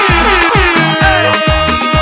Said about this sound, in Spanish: ¡La bocina!